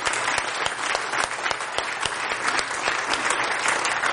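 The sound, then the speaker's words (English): A crowd applauds steadily, a dense patter of many hands clapping at an even, fairly loud level throughout, with no voices standing out. “So let's give a hand clap to all those that have been serving.”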